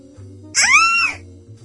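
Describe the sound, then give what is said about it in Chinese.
A woman in a bathroom shower lets out one short, piercing scream of terror as the shower curtain is suddenly ripped down, shrill, rising then falling away over about half a second against a faint low hum. “忽然，浴室的遮帘猛烈地被扯了下来，姊妹吓得魂不附体地大声尖叫。”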